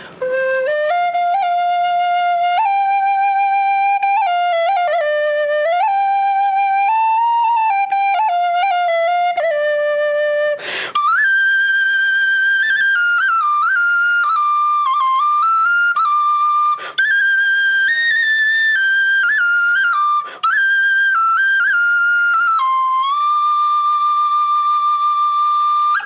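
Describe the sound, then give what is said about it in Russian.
A wooden sopel folk flute plays a lively, breathy melody alone for the whole clip, bright piercing tones stepping between notes with quick trills and ornaments, loud and steady with a few brief pauses. “Ну, вот у нас еще есть инструмент, коротко расскажу, называется сопели.”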